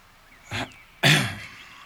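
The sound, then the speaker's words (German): A man clears his throat heavily in two bursts, a shorter rasp followed by a louder, longer gravelly one, heard alone without speech. “Nachdem er sein Sandwich aufgegessen hatte, räusperte er sich schwerfällig und blickte seinen Neffen aufrichtig an.”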